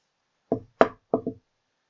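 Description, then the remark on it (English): Four soft, hesitant knocks on a wooden door, unevenly spaced with the last two close together, fairly quiet, with silence around them and no voices. “Don't knock like that. So timid.”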